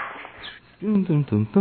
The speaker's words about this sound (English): Now we're gonna pretend we didn't hear the dogs, and we're gonna start right now.